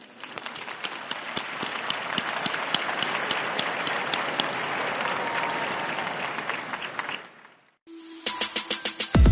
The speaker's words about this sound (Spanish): Y al final pidió un aplauso por el nuevo beato.